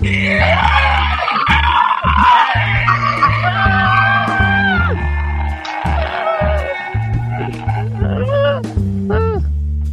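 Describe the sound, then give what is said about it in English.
Several hosts let out loud, drawn-out screams together as a good-night sign-off "ant scream", wavering and sliding in pitch like a mock creature shriek, over steady bass-heavy music that continues throughout. “So 1, 2, 3, good night, folks, and now let's give them an ant scream.”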